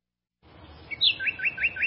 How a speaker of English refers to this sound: Hear that? The sound of adorable little birds in your garden.